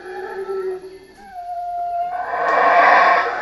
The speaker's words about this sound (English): Those are howler monkeys in a tropical rainforest in Belize.